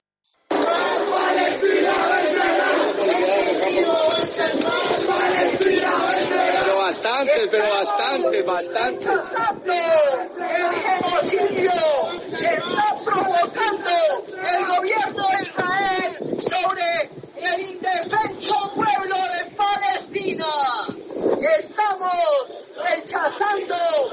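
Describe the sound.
A large crowd of young protesters shouts and chants continuously in city streets, voices overlapping loudly with rhythmic bursts of yelling throughout.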